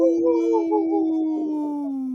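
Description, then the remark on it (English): A single long wolf howl, steady, holding a mournful tone that wavers slightly before sliding gently downward as it fades out, with no talking over it. “In this point of the show, we'd like to bring awareness to our Minnesota and Wisconsin wolves.”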